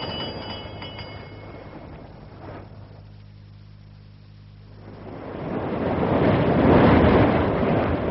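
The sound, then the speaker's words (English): Rough sea waves surge and crash in broad, hissing swells, easing into a lull before a heavy wave builds and breaks loudly. A low engine-like rumble drones beneath the first half. “It's a pretty good sea running.”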